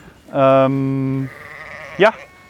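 A sheep bleats loudly, one long wavering cry followed after a short pause by a brief, higher second bleat.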